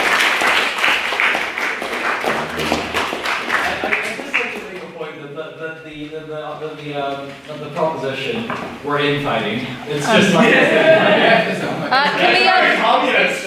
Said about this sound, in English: Can we have a second round of applause for a maiden speaker as well, please?